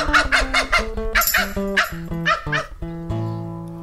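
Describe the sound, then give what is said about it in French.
A person imitates a dachshund barking, letting out a quick run of loud, sharp yapping barks, with no other talk. “Dalmatien. Hof, hof, hof, hof, hof. Tekel.”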